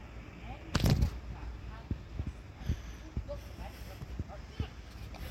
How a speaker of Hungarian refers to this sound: Ez nem ló, de roller. Most már elindul. Vagyis be kell kapcsolni.